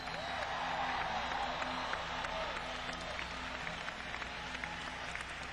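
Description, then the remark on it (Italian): A concert crowd in St. Louis applauds steadily for several seconds as the band members are introduced, a dense, loud wash of clapping that holds an even level throughout, with faint cheers mixed in. “I'm going to introduce the members of the band, and when I do, I want you to give them a really great round of applause.”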